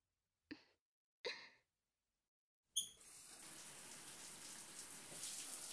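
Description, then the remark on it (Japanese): Two short squeaky knocks, then a shower bursts on with a sudden hiss and keeps spraying steadily, fairly loud, with no voices, as hot water rinses soap foam off a person's arms, chest, shoulders and back. “それでは、シャワーで泡を流してしまいましょう。”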